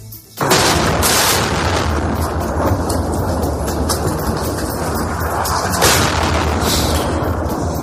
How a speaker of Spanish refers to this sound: Es tal cual el sonido de los disparos, del bombardeo de la aviación.